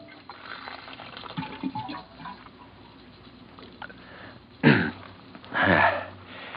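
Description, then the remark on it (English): Water from an office water cooler pours into a cup in two short gurgling bursts near the end, following several seconds of quiet shuffling and light handling noises. No one speaks. “Hang up your hat and go over to the water cooler for a drink.”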